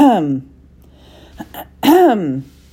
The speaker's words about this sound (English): It took a minute for it to register that the sound that Alice had heard was someone clearing his throat.